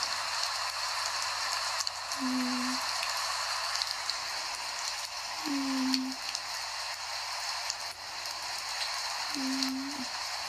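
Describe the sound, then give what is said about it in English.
Steady rain falls outside, a continuous soft hiss without a break, while three brief low tones surface a few seconds apart underneath. No one speaks. “I've got the rain outside as well.”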